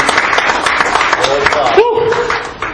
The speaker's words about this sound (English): Let's give him a good hand clap of praise here this morning.